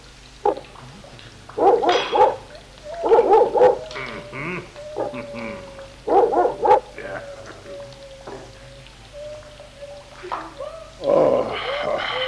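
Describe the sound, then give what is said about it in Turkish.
A hunting dog named Arap barks in a handful of loud, spaced bursts, with a thin, drawn-out whine lingering between the barks. “Gel buraya. Görüyor musun ağa? Uçan kuşu sektirmiyor.”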